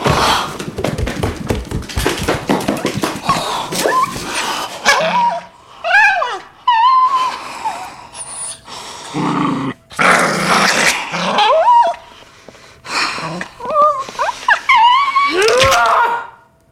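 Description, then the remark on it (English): A dog in a movie scene snarls and growls loudly, with harsh rasping bursts broken by higher yelping whines and snapping barks, the aggression rising and falling over several seconds. “The dog. The dog.”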